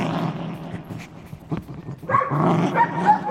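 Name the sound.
dog barking excitedly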